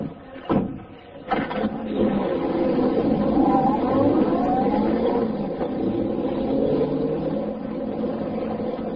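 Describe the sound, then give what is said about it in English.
A convertible car starts up after a couple of sharp clunks, its engine settling into a steady, rising hum as it drives off, continuous, with no talking. “Then he stepped into his convertible.”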